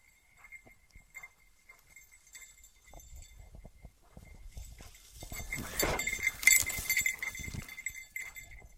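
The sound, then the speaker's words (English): An excited search dog, Boomer, barks off in the distance in a muskeg while searching for a hidden person: faint, scattered yelps build into a louder, rapid flurry of barks, over a steady high-pitched jingling bell and some rustling, with no talking. “I hear an excited dog off in the distance.”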